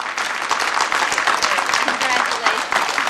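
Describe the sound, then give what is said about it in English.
An audience in an auditorium breaks into steady, sustained applause after a chess checkmate win, a dense patter of many hands clapping at once, fairly loud, holding evenly for a few seconds. “She grins triumphantly, then glances at Lindo, who sighs with relief and joins the applause.”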